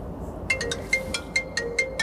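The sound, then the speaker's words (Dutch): A phone ringtone chirps in a quick, steady series of bright electronic beeps, about ten in two seconds, moderately loud over a faint background hum with no one speaking. “Even de telefoon opnemen.”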